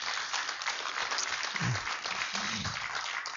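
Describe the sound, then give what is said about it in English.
A crowd applauds as a guest speaker is invited up, a steady, dense wash of many hands clapping at once with no pauses, moderately loud, with a couple of brief low voice murmurs underneath. “So let's give a round of applause”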